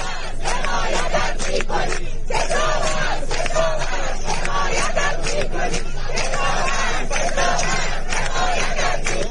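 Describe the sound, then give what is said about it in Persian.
A large crowd of protesting farmers joined by people of Isfahan, Iran, chants supportive slogans in loud, rhythmic unison in the Zayandeh Rud riverbed, voices rising and falling in steady repeated phrases over a constant roar of massed shouting, with no break for the whole stretch. “دو روز بعد کشاورزان غرب اصفهان نیز به همکاران خود پیوستند و روز جمعه نیز گروهی از مردم اصفهان با شعارهای حمایتی به جمع کشاورزان ملحق شدند.”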